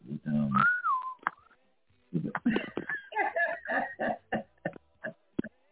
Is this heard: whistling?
yes